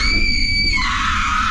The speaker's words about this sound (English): All of a sudden, out of nowhere, one of the girls on the back corner of the cabin just let out this blood-curdling scream.